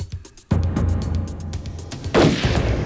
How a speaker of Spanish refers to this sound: Los agentes en el auto oyeron disparos y temieron que Dillon hubiera atacado de nuevo mientras lo vigilaban.